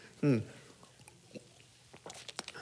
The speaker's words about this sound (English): Maybe I do need a sip of water. That would help.